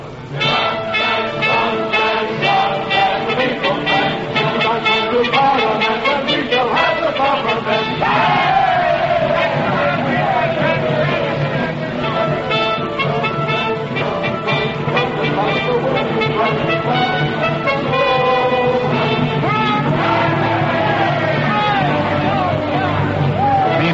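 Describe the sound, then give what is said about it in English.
A marching crowd with bands on parliamentary election day as the votes are counted, a loud, steady roar of many voices shouting and chanting, with tonal, music-like strains running through the din for the whole stretch. “As the outcome hangs in the balance, the bands still play and the crowds are on the march.”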